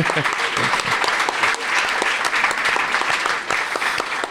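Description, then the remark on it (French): An audience at a live show at la Gaîté Lyrique claps steadily, a dense, continuous wash of applause that stays loud and even from start to finish with no voices standing out. “Donc vous pouvez aussi vous applaudir vous-même.”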